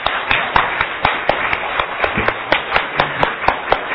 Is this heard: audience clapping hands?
yes